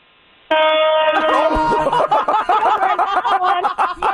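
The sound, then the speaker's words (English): A car horn gives one loud, sustained blast from a vehicle driving by, driven by someone called Santa Claus, and people break into laughter and chatter right after it. “Oh, there was Santa Claus himself driving by with that honk.”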